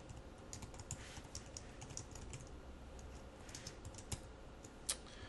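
Steady typing of code on a computer keyboard in Visual Web Developer Express Edition, using tab keys and auto-completion, a quick irregular run of soft key clicks with a few sharper, louder taps standing out, and no voices.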